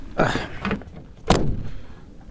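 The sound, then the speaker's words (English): A door swings open with a short scraping creak, then a sharp click or thump from the latch partway through, fairly loud with no one talking. “Man, every time I open this door, a million mosquitoes come in.”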